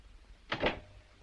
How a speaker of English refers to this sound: He shuts the door.